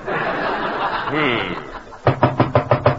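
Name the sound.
knocking on a door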